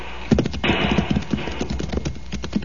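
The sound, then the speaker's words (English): Horses' hooves clop rapidly and unevenly at a gallop along a trail as the horses jump over a rolling boulder, loud, over a steady rushing background noise, with no voices. “Jump your horse over, amigo. I think the horses can just about make it.”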